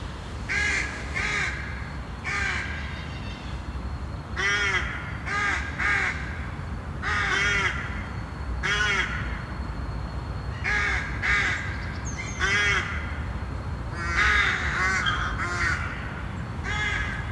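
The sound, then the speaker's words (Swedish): Many rooks caw harshly and repeatedly from their nests in the treetops, overlapping calls from several birds at once in a busy nesting colony of about eleven nests, with a steady low rumble of wind or traffic underneath and no talking. “Råkor häckar gärna så här i kolonier.”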